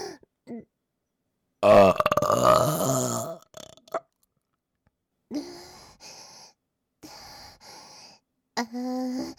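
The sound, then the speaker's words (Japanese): A single loud, drawn-out burp rumbles for nearly two seconds, followed after a pause by quieter breathy vocal sounds and short exhalations. “腹からゲップが上がってくる。”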